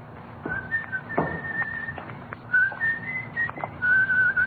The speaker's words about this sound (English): That's a pretty tune you're whistling